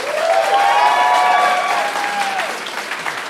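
audience applause and cheering

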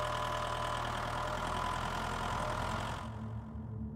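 tractor engine running

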